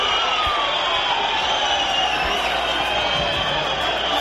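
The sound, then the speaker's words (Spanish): A stadium crowd at the Helmántico whistles and jeers at the end of the Salamanca–Logroñés football match, with Salamanca losing 0–2, in a dense, steady roar, shrill whistles streaking above the massed noise of voices without pause. “Unanimidad en la grada, pitos, silbidos.”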